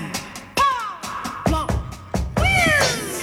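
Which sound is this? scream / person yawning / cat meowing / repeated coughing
cat meowing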